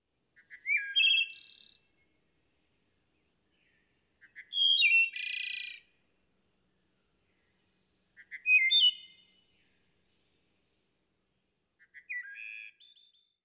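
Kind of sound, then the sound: bird, wood thrush song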